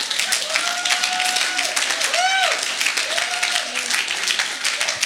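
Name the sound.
audience clapping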